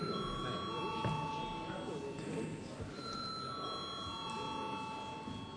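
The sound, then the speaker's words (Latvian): A steady electric bell rings continuously throughout in a parliament chamber, calling members to a vote, its sustained metallic tone over a low murmur of background voices and movement. “Paldies, lūdzu zvanu.”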